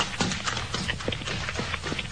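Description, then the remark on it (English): Quick, steady running footsteps of a man running up a hard road past two men trudging home, each sharp impact landing in an even rhythm over a constant background hiss, with no voices. “Yes, a man running up the road past the two fellas trudging home.”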